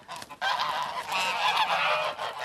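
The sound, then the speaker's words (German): Several geese honk loudly and continuously, their harsh, nasal calls overlapping in a noisy chorus with no pauses. “Anhängliche Gänse.”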